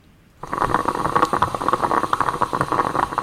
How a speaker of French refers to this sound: C'est la machine à café. Le perco. C'est une cafetière italienne, ouais. J'avoue, moi, ça me procure beaucoup de plaisir.